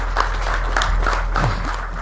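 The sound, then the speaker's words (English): An audience at the 2024 AgriTech Expo claps steadily after the Minister of Agriculture, Honorable Mtolo Piri, declares the expo officially open: a dense, continuous patter of many hands at moderate loudness with no one speaking over it. “Another louder round of applause.”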